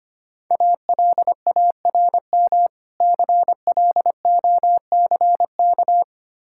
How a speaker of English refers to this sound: Alarm clock.